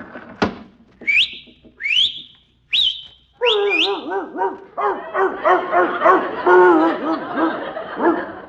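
Three short rising whistles out a window to call a dog to bring in the morning paper, then the dog barks and yaps in a rapid, continuous string of fairly loud barks that last several seconds.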